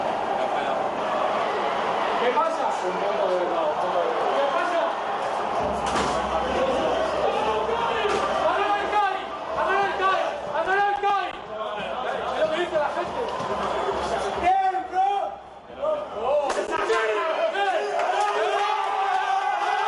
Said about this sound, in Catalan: Aquests crits que escolteu de fons, aquesta bogeria absoluta, ell hi era, ell estava allà en aquell vestidor.